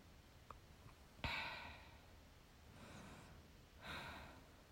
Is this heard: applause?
no